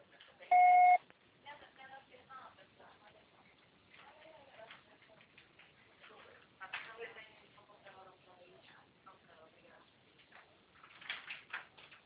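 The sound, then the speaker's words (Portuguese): A single loud, steady voicemail beep sounds for about half a second, a clean mid-pitched tone, followed by people talking in quieter, continuous conversation. “será tarifado após o sinal.”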